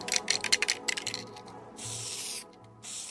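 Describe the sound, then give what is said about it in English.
A spray paint can sputters in a string of quick hissing pulses, then lets out two steady spray bursts with a short pause between them, no voices present, as graffiti is sprayed onto a crumbling wall, outlining a tall woman. “She began painting, as she often did, by spraying the outline of a tall woman.”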